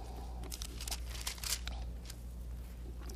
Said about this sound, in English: Turn to 2 John 2:15. I'm sorry. You know, I got to admit, one of the greatest sounds a speaker could ever hear is the sound of pages turning. 1 John 2:15.